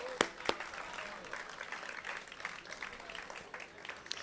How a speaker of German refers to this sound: Lasst uns mal einen großen Applaus nach Nordfriesland schicken für so viel Durchhaltevermögen.